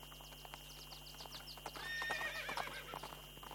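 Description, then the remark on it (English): Horses at a lake, one of them with black spots, whinny and neigh with rising, wavering calls while hooves clip-clop in a steady, uneven patter, the neighing swelling loudest in the middle before fading back to hoofbeats. “Oh, look! How many horses are here?”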